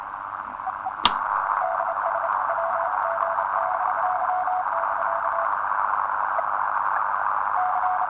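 A steady hiss of radio static with a thin, wavering whistle from a radio receiver running with regeneration, broken early by one sharp click. It holds at an even level for the whole stretch, with no voices.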